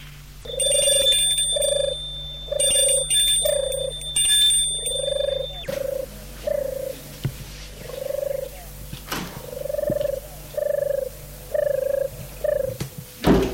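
The front door bell of a house rings in a series of short, repeated bursts, bright and metallic at first, then continuing as a steady rhythm of mid-pitched buzzing tones with no one speaking.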